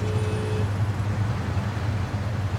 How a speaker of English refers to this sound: Why is there so much traffic? Is this because of the game? Yes, this is because of a high school girls' soccer game.